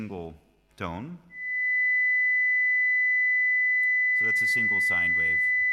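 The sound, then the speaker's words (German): A steady, pure high-pitched tone sounds continuously for several seconds, starting right after a brief spoken phrase and continuing unchanged beneath a man's voice as he resumes talking. “Das ist eine einzelne Sinuswelle, 2000 Hertz.”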